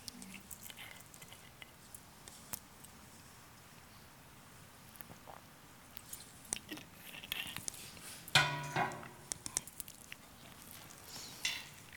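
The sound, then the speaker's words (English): Someone drinks a glass of water: quiet shuffling and faint sips, then a sharper clink of glass and a few soft handling noises partway through, with no talking. “Let me take a drink of water first.”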